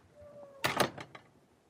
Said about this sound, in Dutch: Hierop sloot ze de deur.